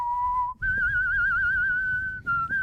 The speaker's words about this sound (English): Yeah. It's pretty impressive. Everybody's impressed by my whistling, but that's not enough.